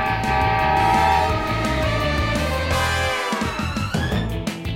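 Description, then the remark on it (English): A loud train horn blares in sustained chords over a rhythmic rumbling chug, its pitch sliding downward near the end as the train, called Mighty Mila, rushes by. “I'm going to fix that fence just as soon as I stop this train that's also Mighty Mila.”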